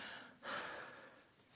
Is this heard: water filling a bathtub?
no